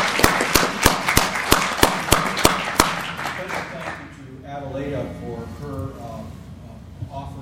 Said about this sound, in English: So one more round of applause, please.